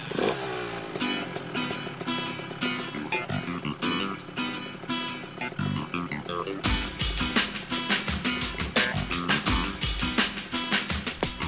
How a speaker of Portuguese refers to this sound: Liguei a moto, foi só um kick.